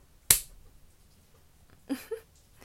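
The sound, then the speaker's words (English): A single sharp slap of a hand striking bare buttocks, quick and crisp, followed after a pause by a short, soft vocal sound. “Maybe slap it just like this.”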